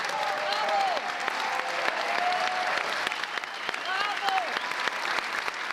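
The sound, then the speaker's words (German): Sustained, warm applause from an audience at the premiere of the play Marias Testament at the Hamburger Kammerspiele in Hamburg, dense clapping filling the room steadily throughout, with a few faint voices and whistles rising above it. “Das Publikum dankt es mit einem langanhaltenden und herzlichen Applaus.”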